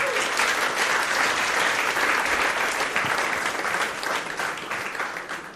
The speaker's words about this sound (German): Deswegen Applaus